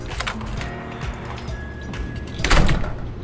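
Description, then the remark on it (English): A motel room door at the Crazy Q Motel rattles and knocks in its frame through several short scraping jolts as a man tries to get it open, then gives way with a louder, fuller thud and creak near the end. No voices. “Not that the Crazy Q Motel was an incredibly far drive, but it was a good start at trying to put each other first again. If he could ever get the door open.”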